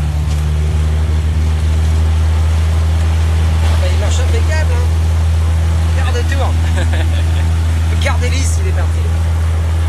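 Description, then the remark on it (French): The propeller engine of a Cessna 206 aircraft, about twenty years old, starts and runs at a steady, loud low drone, its deep throbbing hum constant throughout while people talk briefly over it. “Il marche impeccable, hein. Quart de tour. Le quart d'hélice, il est parti.”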